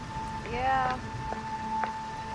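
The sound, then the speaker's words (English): Steady rain falls with a soft, continuous hiss and patter over a gazebo and a stone path. A brief muffled voice and a faint sustained tone sit over the downpour. “leaves the gazebo, braving the rain along a stone path.”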